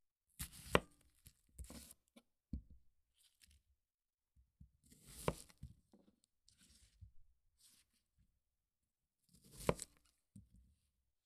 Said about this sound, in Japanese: 玉ねぎを切っても全然涙が出ません。強がってるわけではないですよ。